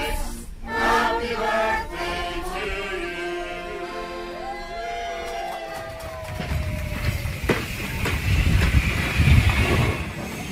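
A Santa special steam train, set up by volunteers, rumbles along the rails with steady mechanical noise, high whistling tones and hiss rising and falling over it, growing louder and rougher toward the end. No one speaks.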